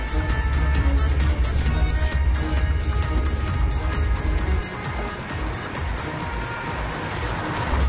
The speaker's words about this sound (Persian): خودش سوار ماشین میشه و میره.